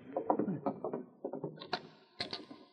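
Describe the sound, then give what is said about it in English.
A door to a back room being opened: a quick series of wooden knocks and latch clicks, then a couple of sharper thuds as it swings. No one speaks. “Walk over there and open the door to the back room.”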